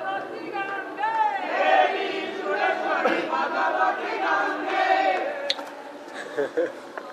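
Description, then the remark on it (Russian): A group of voices breaks into loud, overlapping singing or chanting, the sound swelling into a crowd-like chorus that carries on steadily for several seconds before thinning slightly at the end. “Вот сейчас вот начинают петь, сейчас толпа соберется там.”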